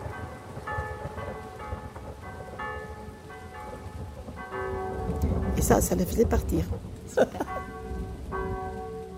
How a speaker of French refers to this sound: Et alors, elle allait sonner les cloches, parce qu'autrefois, quand il y avait le tonnerre, on sonnait les cloches, ici, à la chapelle et à l'église. Pour faire partir l'orage.